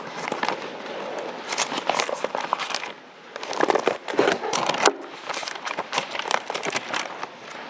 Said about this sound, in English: We'll be turning pages a lot today.